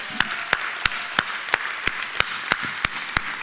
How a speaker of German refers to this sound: Das heißt, dann dürft ihr mal einen großen Applaus geben für die Leute, die vor 30 Jahren angefangen haben, diese Gemeinde zu bauen.